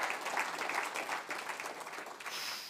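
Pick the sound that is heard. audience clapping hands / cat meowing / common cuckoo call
audience clapping hands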